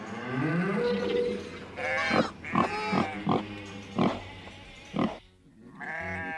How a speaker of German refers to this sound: Plötzlich bricht ein wildes Durcheinander im Stall aus.